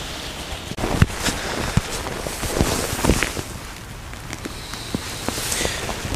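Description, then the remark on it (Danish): Steady rain hisses and patters outdoors in a garden, with scattered sharp drips and the irregular crunch of footsteps as someone walks through the rain out to a greenhouse; no one speaks. “Så lad os lige hoppe ud i regnvejret en tur.”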